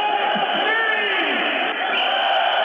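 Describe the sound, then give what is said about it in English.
A huge crowd of tens of thousands of opposition demonstrators in Belgrade roars in a dense, sustained wall of cheering, loud and steady throughout, with scattered shouts and high whooping tones rising above the din, as a speaker leaning from a fourth-story window at opposition headquarters reels off names. “A crowd of tens of thousands cheer as a speaker, leaning from a fourth-story window at opposition headquarters, reels off names they've never heard before.”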